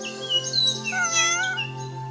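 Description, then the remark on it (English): A cat lets out a long, wavering meow that rises and falls over about two seconds, clear, with a steady tonal hum underneath and no one talking. “Now, where is my precious little kitty? Here, kitty, kitty.”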